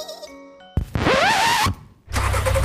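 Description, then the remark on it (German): A very old farm tractor engine cranks with a harsh clatter and a rising whine, briefly drops away, then catches and settles into a loud, steady rumbling idle. “Rum, rum. Ich bin ein ururalter Traktor.”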